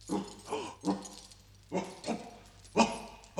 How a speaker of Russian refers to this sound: Проклятый пес проснулся и вылезает из домика. Да-да, высунул язык от жары.